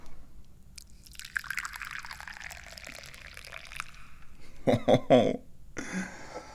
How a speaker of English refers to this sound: I like to drink and pour tea, so let's do that.